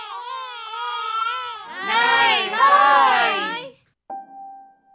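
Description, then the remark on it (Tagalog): A baby cries in drawn-out, wavering wails that start whiny and swell into loud, strained sobbing before cutting off, followed after a brief pause by a steady electronic tone. “Nay, umiyak na naman”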